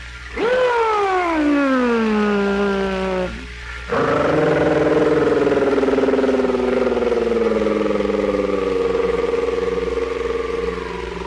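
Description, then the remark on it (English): An automobile starting at the curb with an electric starter: a loud whining tone slides downward for about three seconds, breaks off briefly, then settles into a steady, humming engine drone with no talking. “Then the electric comes along and finally she hears the automobile start with electric starter at the curb.”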